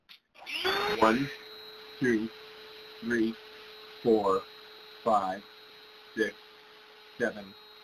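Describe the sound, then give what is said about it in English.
A vacuum cleaner starts up and keeps droning steadily with a high whine, while a person counts from one to ten, roughly once a second, over the noise, in a microphone test recorded on an iPhone 8. “I'm about to turn the vacuum on.”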